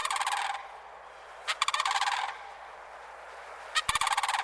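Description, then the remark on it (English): Mississippi sandhill crane calls ring out over wet pine savanna near the Gulf Coast in three loud bursts, each a rolling, rattling bugle with a rough trilled texture and strong harmonics, separated by short quiet gaps with no talking. “On more than one morning, I've heard the arrival of these cranes, the slap of their substantial wings and the echo of their almost prehistoric calls across the wet pine savannas near the Gulf Coast.”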